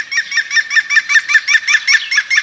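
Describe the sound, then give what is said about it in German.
A green woodpecker's laughing call: a rapid, even series of about a dozen loud, ringing notes, with no other sounds around it. “Und damit Sie auf dem Weg genau hinhören können, kommen hier nochmal im Schnelldurchlauf die Vogelstimmen, die wir Ihnen vorgestellt haben. Der Grünspecht.”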